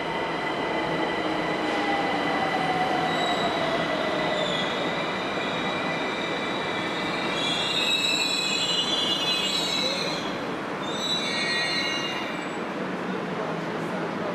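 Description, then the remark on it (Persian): A subway train rumbles steadily into a metro station, its wheels letting out high, shrill squeals that rise and waver near the end, loud and continuous with no one talking. “قطار که اومد پاشد و سوار شد.”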